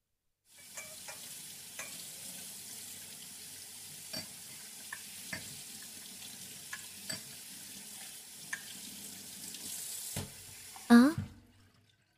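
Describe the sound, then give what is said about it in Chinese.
Steady hiss of water running into a sink for about ten seconds, with scattered clinks and knocks of bowls and chopsticks being handled and cleaned up, ending in a louder clatter near the close. “洗澡水我已经帮你放好了，你先去洗澡吧，碗筷我来收拾就好。”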